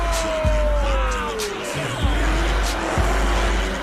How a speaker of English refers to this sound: They pause at a gap in the crowd, which allows a view of the car doing donuts.